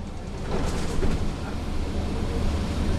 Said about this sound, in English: I'm riding the 22 bus with him and his wife.